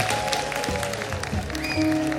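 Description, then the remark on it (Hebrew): A crowd claps steadily throughout at a live Saturday-night broadcast event from Yeshivat Maarava: a dense, continuous patter of many hands with sustained musical tones underneath and no speech over it. “מחיאות כפיים ליהודה קלמן.”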